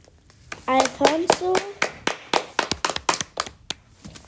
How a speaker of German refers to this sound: Sau gut. Applaus für unsere Schweinechor.